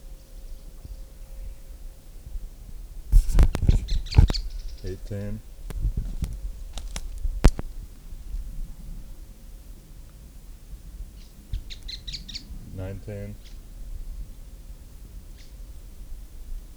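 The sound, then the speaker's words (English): Bird calls come in short bursts: a loud, chattering series of harsh, stacked notes around three to five seconds, then quieter high chirps and another rattling burst near twelve seconds, over a low steady hum. “Birds.”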